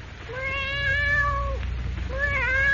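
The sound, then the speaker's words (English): A black cat on a bed, woken by a door opening, rises and stretches while it mews plaintively twice: a long drawn-out wail followed after a short pause by a second rising mew, over a low steady background hum. “A cold black cat that, awakened by the opening of the door, rises and stretches, mewing plaintively, its green eyes glowing like emeralds.”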